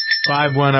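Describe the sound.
A high, bright bell tone rings out and keeps sustaining for under a second, while a low, droning voice-like hum rises underneath it partway through.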